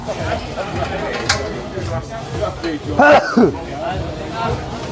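human body sound, sneeze

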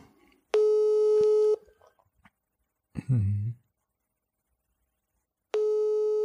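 signal or alarm, telephone call tone

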